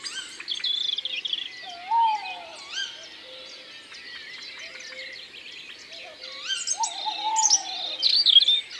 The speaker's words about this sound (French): Il y a un rouge-gorge qui chante dans la pénombre. C'est un lève-tôt qu'on entend souvent bien avant l'aube.